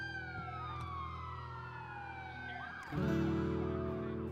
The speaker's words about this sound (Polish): Potem zadzwoniła na pogotowie. Usłyszałam nadjeżdżającą karetkę.